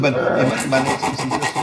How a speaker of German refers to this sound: der schleift gerade an so einer Billigklampfe rum, baut einen kleinen Tonabnehmer ein.